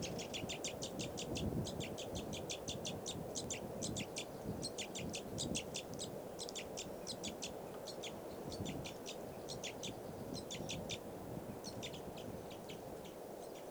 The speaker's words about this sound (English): That bird just flew over there. Different one.